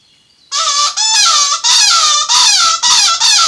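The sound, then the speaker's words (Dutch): A seagull calls in a loud series of about five harsh, high-pitched squealing cries, each lasting roughly half a second with brief gaps between them, after a short quiet start. “Nee, dit is een meeuw.”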